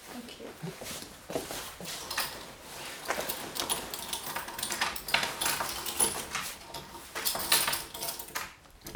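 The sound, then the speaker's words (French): A key rattles and scrapes in a door lock, with a series of metallic clicks and clacks as the bolt is turned for a double lock, amid some handling noise. “J'ai toujours à double tour parce que j'avais un autre chat, il sautait sur les portes, il ouvrait tout.”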